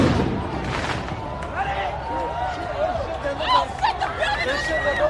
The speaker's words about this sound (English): Fireworks drown out peaceful protests near the White House.